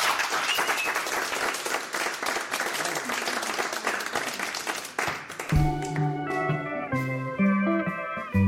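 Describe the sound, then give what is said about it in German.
A crowd applauds loudly and steadily for about five seconds in Radio 1's Studio 1, then the clapping gives way as a band starts playing live, with sustained low bass notes and bright chords. “Nur für uns, nur für Radio 1 spielen sie jetzt nochmal live und dafür wünsche ich mir jetzt nochmal einen großen Applaus”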